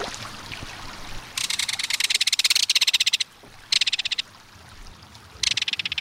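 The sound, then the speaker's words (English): A belted kingfisher gives its harsh metallic rattle in three loud bursts of rapid, evenly spaced clicks, pausing between each, over a faint background hiss of running water. “There's no other sound along a stream or waterway quite like the reverberating metallic call of a belted kingfisher.”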